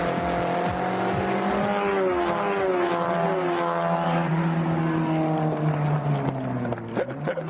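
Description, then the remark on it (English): A race car engine buzzes from the distance on the final stretch of a race, pushed to the limit, in a steady, continuous drone, its pitch climbing and then gradually sliding lower as the car passes, with no talking over it. “push that car to the limit on the final stretch. Lovely noise, buzzing in from the distance.”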